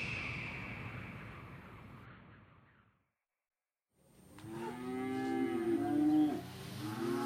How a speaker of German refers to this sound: und füttere dort die Kühe.